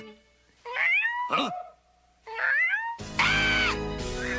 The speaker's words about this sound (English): Huh? Percy, I don't believe it. Welcome to the Nether World, kitty. Oh, Percy, you silly cat.